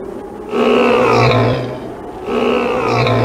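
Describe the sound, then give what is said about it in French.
Two loud, drawn-out monstrous roars, one right after the other, each rumbling and rising before fading, like a voice imitating the Kraken's bellowing call to all the animals of the sea. “Alors c'est son appel à tous les animaux de la mer.”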